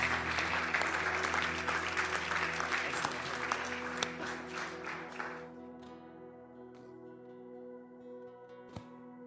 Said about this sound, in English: Come on, everybody. Let's give Jesus a big hand clap of praise.